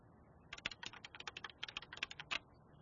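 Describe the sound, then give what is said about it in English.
Keys clatter on a computer keyboard in a steady run of crisp taps lasting about two seconds, unevenly spaced, with no voices: the claws of Two Toes O'Malley, a sloth detective, on his computer keyboard in Biotope City's police station near midnight. “All, that is, except for the slow tap, tap, tap of Two Toes O'Malley's claws on his computer keyboard.”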